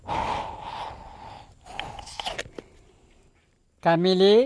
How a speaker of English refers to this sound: He's talking to the water. He's shaking it. He's putting it under his arm. He's breathing into the water.